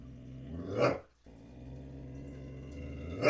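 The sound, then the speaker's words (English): Zsa Zsa the dog growls low and steady, with a sharper yelp-like burst early on and another at the very end, separated by a brief pause. “Even Zsa Zsa, the Scientology hating dog, is excited.”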